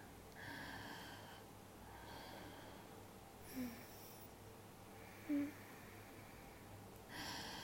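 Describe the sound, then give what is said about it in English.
A woman's quickened breathing: soft, airy breaths repeating steadily, roughly every second and a half, with a couple of brief throaty catches between them, and no talking. “Her breathing is a little bit faster now.”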